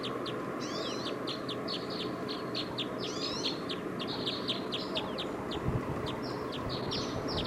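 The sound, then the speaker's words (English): Decoy birds call over and over, a rapid series of short, high chirps and a few sweeping whistles, steady and fairly loud above a constant low rumbling background, with no talking. “Decoys now are calling a lot.”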